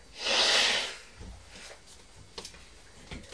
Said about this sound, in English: I'm very sorry, excuse me. Mummy's blowing her nose, isn't she? Making a lot of noise. Is a lot of noise.